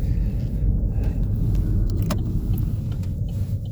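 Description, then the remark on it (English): A car engine idles with a steady, loud low rumble, a few faint ticks and clicks sounding over it, consistent with noisy lifters. No one speaks. “Sometimes, you know, if you lifters, you can tell if the lifters are just by the noise, you can just tell.”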